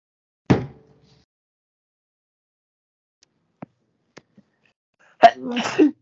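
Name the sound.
sneeze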